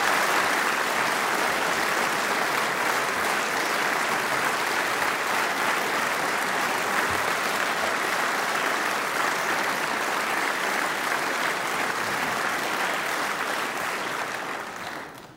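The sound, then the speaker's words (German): Sustained applause from the assembly in the Volkskammer parliament, applause lasting over three-quarters of a minute; a dense, even wash of clapping that holds steady for about fifteen seconds before beginning to fade at the end. No voices stand out. “Sie hatten dann in der Volkskammer über eine Dreiviertelminute Applaus”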